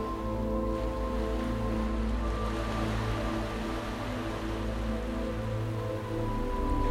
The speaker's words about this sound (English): Feel how the ripples of the ocean waves seem to come